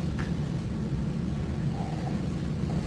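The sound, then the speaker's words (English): A steady low rumble of a large vehicle rolling past, a broad engine drone filling the background with no speech, consistent with a bus passing by. “Another bus.”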